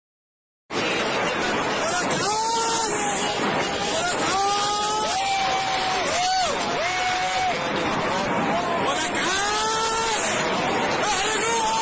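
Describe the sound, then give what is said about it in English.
A crowd of onlookers shouts "Allahu Akbar" and cheers with rising, drawn-out cries over a constant, loud rushing roar that starts abruptly and continues throughout, as sets of rockets are fired off. “These sets of rockets being fired off and people celebrating and cheering.”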